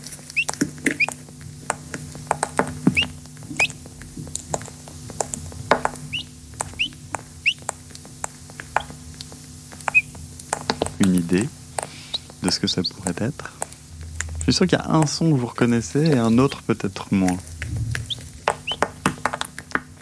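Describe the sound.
A chick pecking its way out of the shell: scattered sharp little taps and cracks with occasional thin, high peeps, followed by people talking over the end of it.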